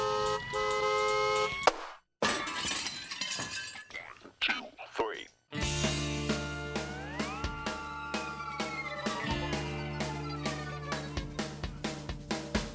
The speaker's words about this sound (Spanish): solo nos falta una cosa más para empezar, que suene la bocina.